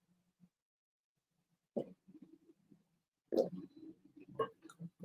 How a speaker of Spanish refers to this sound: voy a tomar un trago de agua.